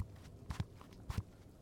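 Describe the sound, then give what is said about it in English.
Four soft footsteps land in two quick pairs, muffled thuds with a slight scuff, fairly quiet. No one speaks. “I hear footsteps.”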